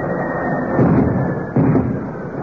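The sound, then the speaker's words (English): An aircraft smashes through a hangar door: a loud, sustained crash of roaring, crunching noise that surges twice, with no voices. “No, he's gone through the door of the hangar.”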